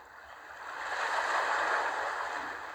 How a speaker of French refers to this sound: Voilà, tu écoutes le bruit des vagues qui t'apaisent.